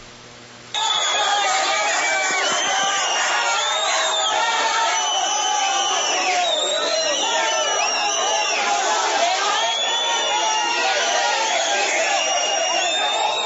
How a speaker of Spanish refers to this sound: Con chiflada terminó el recorrido del alcalde Enrique Peñalosa por la carrera séptima durante el día sin carro en Bogotá. Desde la calle 24 hasta la alcaldía de la ciudad, decenas de ciudadanos criticaron algunas de sus políticas.